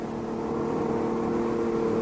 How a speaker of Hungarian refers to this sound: Jaj, nekünk, jön már a busz.